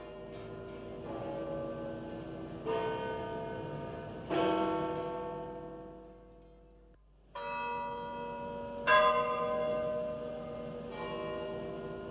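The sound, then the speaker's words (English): Large bells of St. Peter's in Rome toll in slow succession on September 28, 1978, announcing the death of Pope John Paul I; each strike rings out with a long, shimmering decay that overlaps the next, filling the space with a deep, resonant hum and no voices. “The actual sound of the bells of St. Peter's tolling to let the world know the newly elected Pope was dead.”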